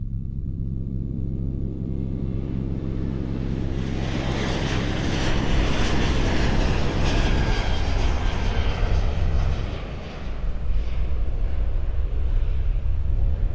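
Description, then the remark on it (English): A steady, loud airplane engine drone fills the cabin, a constant low rumble with a broad whooshing hiss that swells slightly partway through and holds without pause. “I want you to picture yourself on a plane.”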